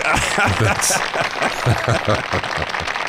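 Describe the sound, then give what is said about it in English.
An applause sound effect of a crowd applauding: dense, rapid clapping from many hands, loud and steady for about three seconds, with a bright burst partway through and crowd noise mixed in. “I need some punny applause man.”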